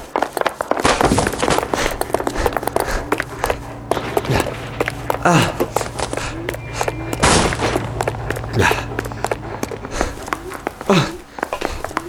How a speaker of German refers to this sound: Ich zielte mit meiner Dienstwaffe auf ihn und gab dann ein paar Schüsse in die Luft ab.